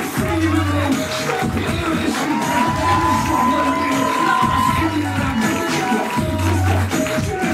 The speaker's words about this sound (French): Écoute. Le son des applaudissements. C'est ma salle et même cœur qui bat à plusieurs.